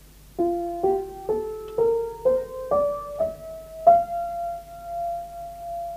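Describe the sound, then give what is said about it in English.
An ascending F sharp major scale played note by note, eight clear tones rising in steady steps, with the final octave note held and ringing out. No voices. “But if I were to play the same scale in the key, say, of what?”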